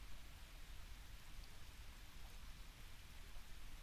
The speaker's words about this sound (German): ich höre die Vögel zwitschern, ich höre das Wasser rauschen. Rauschen ist übertrieben, es ist wirklich nur ein kleiner Bach.